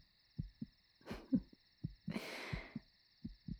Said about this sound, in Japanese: 出ていく時はこの心臓の音を止めてからにするがよい。